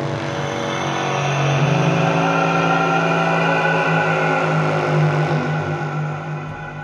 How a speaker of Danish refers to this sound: Og der stak et tårn op, og på det tårn, der var kællingkaldet. De blæste i kællingkaldet en høj metallisk lyd, eller den her.